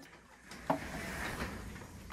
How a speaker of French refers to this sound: On devrait fermer la porte. On ferme la porte.